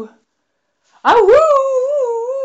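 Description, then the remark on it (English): A single drawn-out howl, loud, rises sharply then holds a steady wavering tone for over a second after a brief silence; it sounds like a human voice imitating a dog howling. “"Oh-woo! Oh-woo!" said the dog, and he bounded towards the dinosaur, dragging a helpless Popkin straight after him.”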